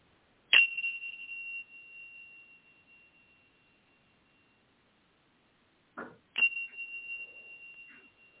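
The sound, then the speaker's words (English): A chime is struck twice during a guided breathing exercise, each strike ringing out with a clear, sustained tone that slowly fades, the second coming about six seconds after the first, with a brief soft knock just before it. “And as you take another breath in, go ahead and focus on the sound of the chime.”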